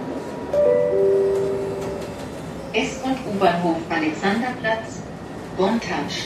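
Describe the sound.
A steady rail rumble fills a tram ride in Berlin toward Alexanderplatz, with a brief rising electric motor whine early on, then muffled voices chatting over the ongoing noise.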